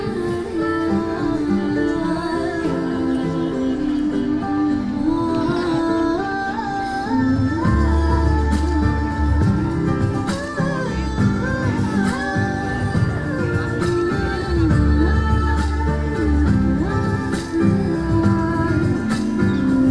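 Instrumental music plays steadily with no voices, layered melodic parts over a mid-tempo beat; deep bass enters a few seconds in and the track grows fuller, with regular percussive hits.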